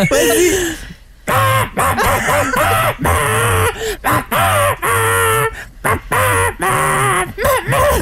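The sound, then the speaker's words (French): A person imitates a rooster crowing, producing a loud run of strained, warbling vocal bursts with rising and falling pitch, broken by short pauses over several seconds. “moi j'ai pigé le son d'un coq, chers amis.”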